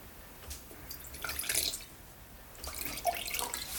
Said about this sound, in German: greift zur Rotweinflasche. Er schenkt einen kleinen Schluck in ein zweites Glas und gießt sich ebenfalls nach.